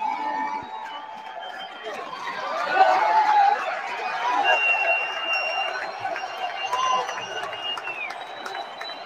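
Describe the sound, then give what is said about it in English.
A loud, sustained crowd roar at a UFC event attended by Trump fills the whole stretch, with cheering and scattered whistles swelling around the middle and staying dense throughout, no single voice standing out. “So whenever Trump is at a UFC event now, I mean, oh geez, that's really loud.”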